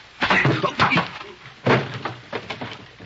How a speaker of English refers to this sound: Wait till I open the door for you.